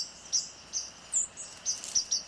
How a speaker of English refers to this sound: Some birds have well-known mnemonics, like the oh, sweet Canada, Canada, Canada of the white-throated sparrow.